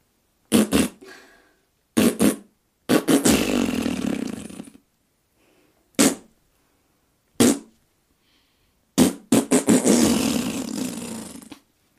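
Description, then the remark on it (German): A voice mimics a bird's courtship call with sharp, popping bursts and two long, rough, buzzing roars, sounding a bit like a fart. Loud, with short pauses between the sounds. “Also bei der Imitation dieses Balzgesangs, was natürlich wie ein Pupsgeräusch so ein bisschen sich anhört, ist die Tröpfchen, die Weitergabe durch Tröpfcheninfektion garantiert.”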